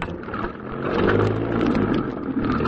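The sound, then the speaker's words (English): A car engine revs up and pulls away in London as a cab is told to follow another car, a low rumbling drone that swells louder after a second and holds steady, with no voices over it. “Follow that car, cabbie.”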